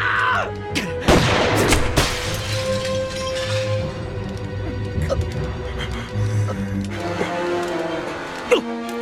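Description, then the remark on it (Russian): A couple of sharp, loud gunshot blasts burst out early on as shooters fire at a man walking toward them, followed by scattered smaller cracks over a steady droning background, with voices faintly present. “Даже выстрел в голову не помог.”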